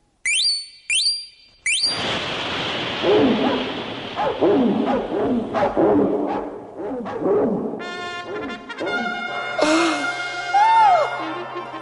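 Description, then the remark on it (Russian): Three short, high whistling tones give way to a loud, noisy commotion with dogs barking and yelping repeatedly through a chaotic rush, shrill tones rising near the end. “И собаки бросились на судей и на весь королевский совет.”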